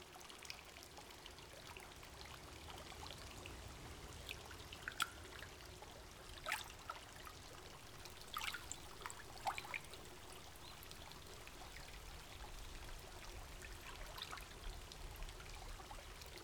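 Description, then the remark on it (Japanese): Steady water pouring and trickling into a carbonated hot spring bath (Matatabi no Yu), kept lukewarm. A constant soft splashing flow with occasional brighter drips and splashes, continuous throughout, with no voices. “ぬるめに調整しておりますけども、炭酸泉ですからお体を温めますので。”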